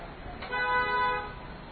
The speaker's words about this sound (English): That's a sound you don't hear very often in this city, is the sound of car honking. In Little India, all the rules get cast aside, by the way.